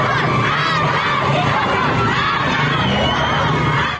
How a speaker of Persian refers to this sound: و این فریاد اعتراض دانش آموزان سنندجی بعد از خروج از مدرسه.